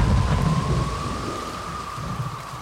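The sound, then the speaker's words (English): Steady rain hisses through a stormy soundscape, with a deep rumble of thunder loudest at the start and slowly fading, and a faint thin whistle of wind running throughout. “They went a long way inside to get away from the wind and the rain.”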